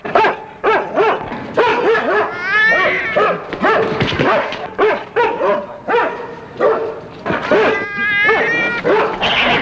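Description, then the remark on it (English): A loud animal fight: a dog that has pulled its leash out of its owner's hands barks, yips and whimpers in frantic, overlapping bursts, mixed with high wailing cries as it scuffles with a cat, with no pauses. “There's a fight, which we hear but do not see.”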